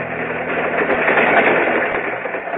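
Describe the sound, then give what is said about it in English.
A steady, continuous rumble of a train rolling along the rails, a dense mechanical roar that stays fairly loud and even throughout, with no voices; a newly married couple is riding it on their honeymoon. “Now they're on a train following the ceremony on their honeymoon.”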